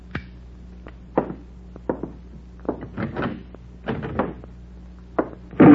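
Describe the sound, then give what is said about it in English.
A door is kicked shut: a series of scattered knocks and bumps from something being handled, ending in a loud bang. No one speaks. “Back inside. Kick that door closed.”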